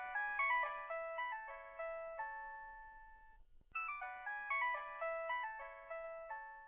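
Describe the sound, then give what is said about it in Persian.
A bright electronic mobile phone ringtone plays a short chiming melody, stops briefly, then repeats the same tune, clear with no one speaking; an incoming call from Roya to the speaker's sister's mobile phone. “سرانجام رویا به موبایل خوارم زنگ زد.”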